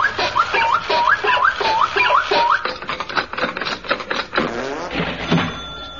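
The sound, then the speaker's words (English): A run of quick keyboard clicks tapping out rapid keystrokes as a question asking for present longitude and latitude is typed in, preceded by a series of short repeating electronic beeps and followed by whirring, warbling machine tones. “Now, you're lost in the Indian Ocean, so all you have to do is to ask my Nana by typing in the appropriate question, i.e., give present longitude and latitude.”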